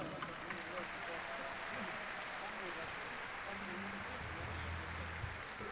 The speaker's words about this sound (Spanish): ¡Aplauso!